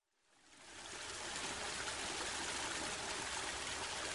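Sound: river water flowing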